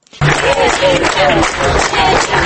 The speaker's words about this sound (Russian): На улице Ленина, возле ресторана «Макдональдс», группа людей из 30-40 человек примерно через полчаса после начала акции стала хлопать в ладоши. Они непрерывно хлопали около 10 минут, несколько раз проскандировали «перемен» и начали расходиться.